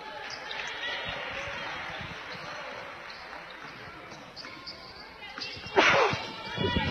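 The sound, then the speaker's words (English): A basketball commentator gives a single sharp, loud sneeze near the end of a clip from a Boyd County game broadcast, over a steady wash of crowd murmur, followed by a brief rustle of noise. “Excuse me for the sneeze there.”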